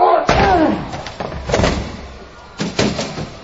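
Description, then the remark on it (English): Big Show's fist smashes through a poster of Triple H's DVD cover and a flimsy fake wall: several loud crashing thuds with splintering crunch, spaced irregularly over a few seconds, with a brief shout and muffled voices underneath. “This Big Show put a hole through the poster and the wall.”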